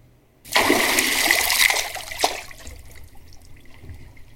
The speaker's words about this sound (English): I will empty my pockets of special technology, which is not waterproof, and then go in the water.